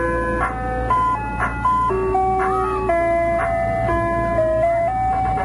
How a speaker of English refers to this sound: kind of just like to play this ice cream truck all night. I'm sure you can figure out a really quick and easy dance for this, can't you? Go ahead, work on it.